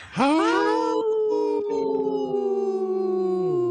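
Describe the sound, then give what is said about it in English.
Three people howl together like a wolf pack, one long loud rising-then-sustained howl with overlapping pitches, slowly sliding downward over about three and a half seconds. “Wow, that's a good healthy howl by us three.”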